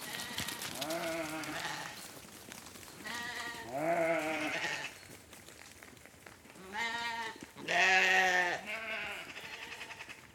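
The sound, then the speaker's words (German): A farm's sheep grazing on the Rummelsberg bleat several times, wavering, quavering calls spaced a few seconds apart, some overlapping near the end, over a steady outdoor background with no talking. “Die Schafe des Hofs weiden tagsüber auf dem großen oder kleinen Rummelsberg.”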